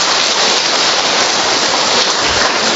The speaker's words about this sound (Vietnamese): Họ đến 5 lần rồi đấy thưa anh chị em. Cho một tràng pháo tay nữa đi thưa anh chị em.